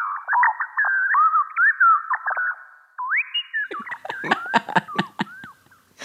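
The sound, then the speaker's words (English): Synthetic birdsong made from speech, converting the phrase "hi, I'm Elsa Chang, and I host All Things Considered": quick warbling chirps and rising whistles in a talk-like rhythm, then a rapid stretch of sharp clicking trills mixed with tweets. No one speaks. “So if I say, hi, I'm Elsa Chang, and I host All Things Considered, this is what that would sound like in birdsong.”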